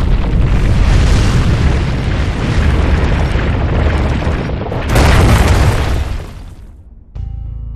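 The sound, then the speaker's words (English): A deep, heavy rumbling roar of ground cracking apart in an earthquake, loud and sustained, then a sudden booming slam as the crack shuts, fading out before a quieter, humming tone takes over. “The great crack reached her and swallowed her up.”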